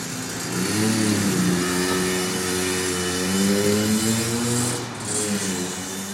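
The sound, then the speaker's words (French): A motorcycle of an older type revs up and down repeatedly in Alsace, its pitch rising and falling in waves, loud with a steady rumbling drone underneath and no talking. “Même ça, je crois que ça n'existait plus, ces motos-là.”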